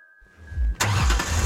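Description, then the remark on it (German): A car engine cranks with a low rumbling whir, then catches and roars to life with a broad, loud burst of noise that settles into a steady running engine, with no talking. “startet den Motor.”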